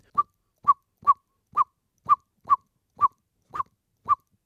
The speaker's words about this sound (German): Nun sehen die Amseleltern eine Katze sitzen. Ist noch weit weg und ist ungefährlich, sie putzt sich vielleicht, aber man muss schon mal Bescheid sagen, dass da ein Bodenfeind ist, eine Katze ist. Der Bodenfeind Alarmruf in leichter Form.